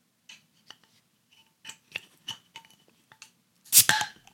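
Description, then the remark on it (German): A series of small metallic clicks and scrapes as a bottle opener catches the cap, then a sharp, loud pop with a short fizzy hiss as the beer bottle opens. “Möchtest du das Bierchen aufmachen?”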